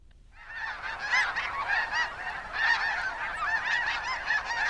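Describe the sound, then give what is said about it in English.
A large flock of greater white-fronted geese calling continuously, many overlapping high yelping honks forming a dense, steady chorus that starts abruptly and carries on throughout, with no voices. “Well, it's geese. Yeah. To me, it sounds like greater white-fronted geese.”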